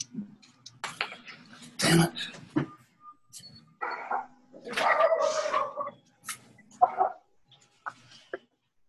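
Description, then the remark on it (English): A dog barks repeatedly in irregular bursts, some sharp and loud, others drawn out into longer yelping stretches, with no talking over it. “Yeah, I was muting the dog, actually.”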